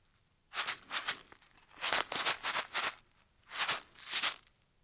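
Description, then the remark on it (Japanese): A small container of furikake rice seasoning is shaken in short, crisp rattling bursts: two shakes, a quicker run of four, then two more. The bursts are bright and gritty, with quiet gaps between. “もうちょっと違う音も撮ってみましょうか。机にあったふりかけさん。”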